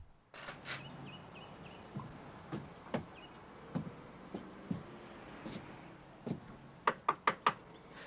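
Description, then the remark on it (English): Scattered soft thuds and footfall-like taps as a man walks up to a house's front porch lead up to three quick, firm knocks on the front door near the end, loud against a quiet background. “When he reaches the door, he knocks.”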